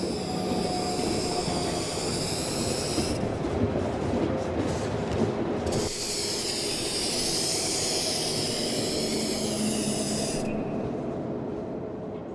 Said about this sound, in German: er sprayt, wie man hier im Video sehen kann und wie man dann auch hören wird, tatsächlich eben diese Glasscheiben an